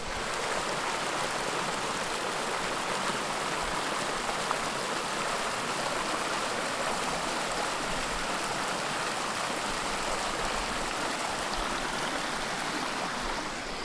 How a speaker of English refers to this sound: Is that fantastic? Or is that fantastic? That is the beautiful sound of running water out here in the woods, out here on the side of a mountain.